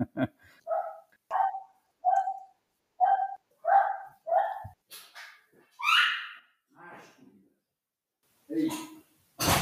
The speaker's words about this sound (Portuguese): Ou então posso vir aqui à minha cadela para ladrar, que é um bom final para o podcast.